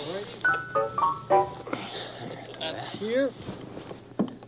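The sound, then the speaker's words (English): An old bell, long kept in a family and brought by a delivery man, rings out in several quick, clear metallic strikes with a steady high tone, followed by people talking. “Well, and some more rings.”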